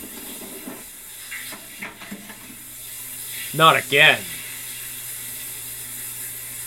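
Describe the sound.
A shower runs with a steady, even hiss of falling water from start to finish, while a voice briefly speaks a couple of words partway through.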